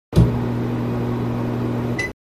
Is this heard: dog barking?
no